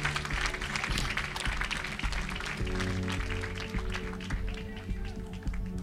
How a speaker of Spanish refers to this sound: Denle un aplauso a la gloria de Dios Padre, Hijo, Espíritu Santo.